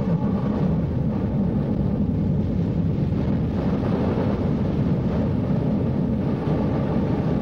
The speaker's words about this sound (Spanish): ¡Cuidado! ¡Una tormenta! ¡Cuidado! ¡Un maremoto! ¡El volcán va a estallar!